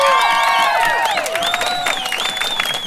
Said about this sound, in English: please give yourselves a round of applause.